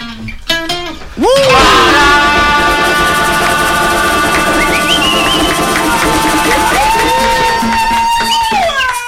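A man shouts in loud, drawn-out bursts with rising and falling pitch, set against a dense, constant wash of noise that fills the whole clip.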